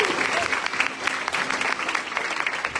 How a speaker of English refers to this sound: We give these 9 guys a round of applause.